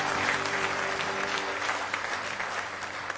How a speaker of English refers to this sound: Give the Lord a good hand clap of praise in the house of the Lord this morning.